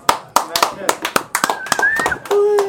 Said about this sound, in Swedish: Hatten av för er. Och en applåd framförallt.